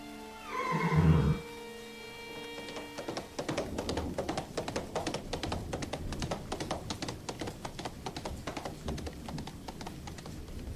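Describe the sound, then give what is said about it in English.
Master Hindley's best horse, taken by Heathcliff, lets out a loud whinny, then after a brief pause its hooves start up in a quick, steady clatter that keeps going to the end as it is ridden away. “Heathcliff's taken Master Hindley's best horse and he's gone.”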